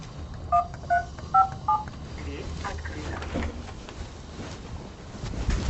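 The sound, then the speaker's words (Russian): Four short electronic keypad beeps in quick succession as a code is punched into the entrance door intercom of an apartment building, followed by faint indistinct voices and background noise. “Можно кодом открыть, можно магниткой, можно с помощью телефона.”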